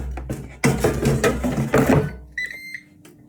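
After its basket is shaken and slid back in with fish sticks on top, an air fryer gives a brief, high-pitched electronic beep following a burst of rattling and clattering, and then a low, steady fan hum, about as loud as a loud PC fan, continues underneath.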